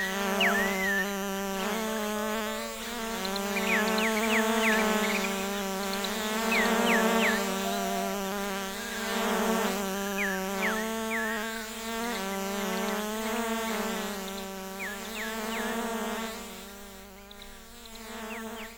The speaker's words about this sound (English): Uh-oh, here come the googly goggly bees. Ooh, are they dangerous? Yeah. Let's get out of here!